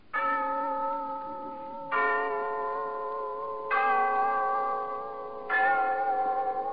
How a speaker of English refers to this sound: Yes, there's the clock in Glen Falls Town Hall, telling us it's time for Rinsel's story of Big Sister